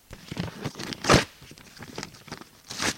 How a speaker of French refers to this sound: Vincent déchire un bout de nappe en papier.